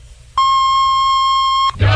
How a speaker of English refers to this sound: This is WJBK AM and FM, Detroit, Michigan, a service of the Star Broadcasting Company, 1500 AM with Hi-Fi FM at 93.1. At the tone, National Bureau of Standards time will be 9 o'clock.